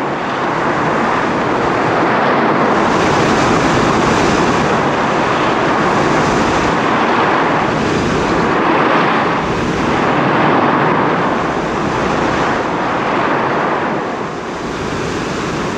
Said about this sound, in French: Soudain, pendant la traversée, le vent se leva.